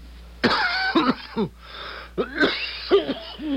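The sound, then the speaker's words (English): A harsh, racking cough erupts in several rough, loud bursts, with ragged wheezy breaths between the fits. “That's a wicked cough”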